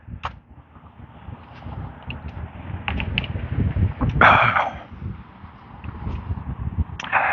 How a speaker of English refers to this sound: Get a sip of water, trying to wash down some of the frog.